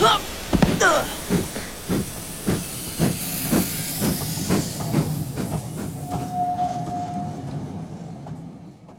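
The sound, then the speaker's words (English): A German steam train bound for Stuttgart hisses loudly at a station with broad, airy noise while regular chuffing pulses beat underneath, then the hiss thins out and a brief whistle-like tone rings before fading. “This is the wrong train. It's going to Stuttgart. It's a German train.”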